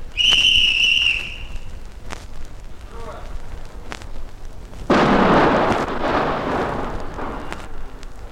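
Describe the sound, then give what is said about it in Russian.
A shrill warning whistle sounds first, followed a few seconds later by a sudden, loud tunnel-blasting explosion in mountain rock at Nurek, where a tunnel is being driven through the mountain, its broad roar rumbling on and slowly fading. “Взрыв был замечательный.”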